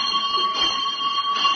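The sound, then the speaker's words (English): An electric school bell rings for the first lesson, continuously and loudly with a steady, shrill metallic tone that holds throughout, with no talking over it. “That's all, boys, and when I ring the bell for the first lesson, I want you all to go and get your hair cut.”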